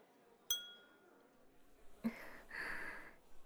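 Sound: glasses clinking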